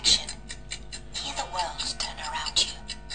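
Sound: clock ticking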